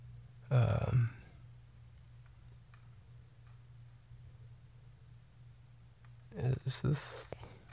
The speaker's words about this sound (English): Sorry, I just ate and I got some burps. Just a little one, so.